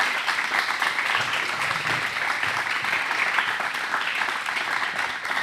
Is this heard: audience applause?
yes